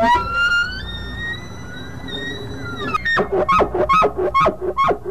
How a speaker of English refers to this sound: The bugle of the elk.